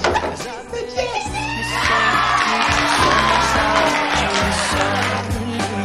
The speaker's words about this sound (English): Outside, Aiden and Darcy hear the cheering.